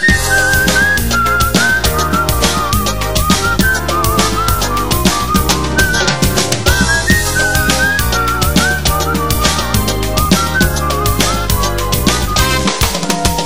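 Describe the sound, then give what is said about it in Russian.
A cheerful Baku-style whistled melody glides and trills on top of a loud, busy band backing, the tune running continuously and clearly throughout, with no voices speaking. “Но не забыл Баку родной и мой веселый бакинский свист.”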